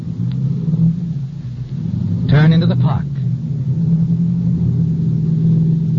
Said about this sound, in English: You start the car.